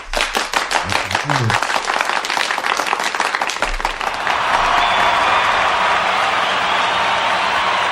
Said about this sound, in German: Das ist aber ein schwacher Applaus, oder?